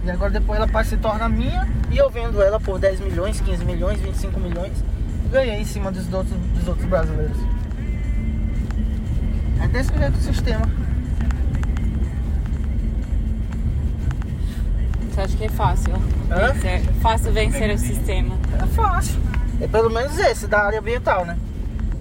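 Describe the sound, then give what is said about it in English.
A truck in a convoy in Brazil's Amazon rumbles along steadily with a heavy, constant engine drone, while several agents talk over it from the back of the truck, their voices intermittent throughout. “In the back of the truck I was in, the agents were commiserating.”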